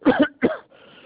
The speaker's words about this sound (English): I'm sorry, hold on. I'm having a coughing fit. Hold on. Hold on. This is really bad.